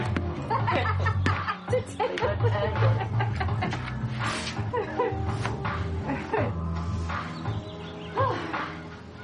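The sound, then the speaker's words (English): A dog barks repeatedly in short bursts amid a busy, cluttered background, with laughter-like voices and chirping mixed in around it. “Oh, God, that dog.”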